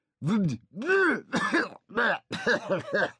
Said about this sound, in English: Suddenly, she leaned back in her chair and began coughing out mouthloads of crackers and caviar.